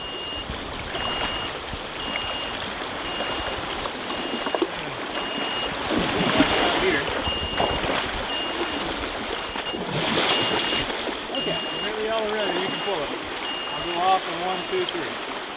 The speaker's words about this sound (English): If you guessed fish sampling, you are right. Those were sounds from an electrofishing demonstration during a May 2013 Virginia Master Naturalist field trip on stream and river fish.